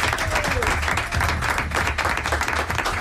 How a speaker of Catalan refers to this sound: Un aplaudiment per Les Planes.